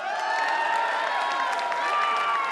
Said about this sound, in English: you deserve a huge round of applause.